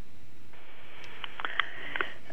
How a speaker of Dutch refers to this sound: Ja, ik hoorde ook een enorme ademhaling.